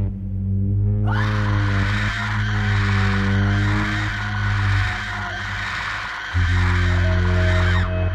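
High-pitched, shrill screaming bursts in after a brief low drone and continues loudly and without a break, layered over a steady low hum.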